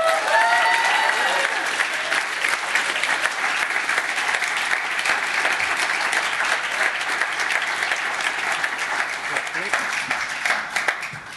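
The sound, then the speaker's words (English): A large audience claps and cheers in a steady, dense wash of applause for the first guest as he makes his way to the stage, lasting throughout, with a few voices and whoops rising briefly at the start. “I want you to be kind, I want you to be nice, I want you to be gracious, and I want you to give a huge round of applause for our first guest as he makes his way to the stage,”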